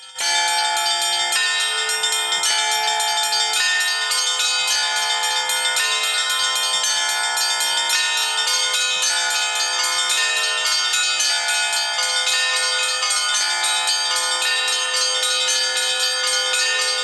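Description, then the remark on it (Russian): Church bells ring continuously and loudly at a city celebration with a stage concert, a gift to the townspeople from the Rostov diocesan department for church and society relations; overlapping tones sustain and blend into a dense, resonant peal with no pause, and nobody talking. “Колокольный звон – подарок всем горожанам от Ростовского епархиального отдела по взаимоотношениям церкви и общества.”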